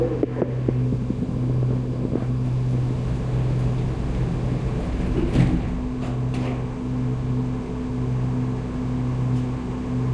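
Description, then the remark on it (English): An airport terminal train, bound for the terminal station serving gates A29 through A55, pulls away with a steady, low electric drone and humming motor tones. A brief clatter sounds midway, and nobody speaks. “Doors are about to close. Please hold the handrail in preparation for departure.”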